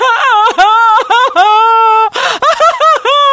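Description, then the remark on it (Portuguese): A person wails in exaggerated, fake sobbing that keeps breaking into giggles, with wavering high-pitched cries and short gasping breaths, loud. “Mas a dica de hoje é chora rindo.”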